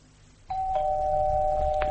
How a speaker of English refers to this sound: Oh, dear. Come on, Mum. It could be anybody. You can't live in fear of the doorbell for the rest of your life.